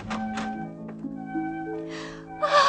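A landlady gasps sharply in shock at her lodger in the doorway, a quick breathy intake, followed by another louder gasp, with a steady musical drone underneath.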